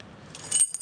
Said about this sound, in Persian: اینم کلیدش. فقط موضوعش باش گم نشه.